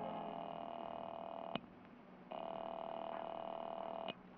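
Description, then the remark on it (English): A telephone receiver clicks and a steady dial tone hums, broken by a short pause and another sharp click, as someone picks up the phone and dials a number to make a call, with no one speaking. “I picked up the phone to call Mary Norton.”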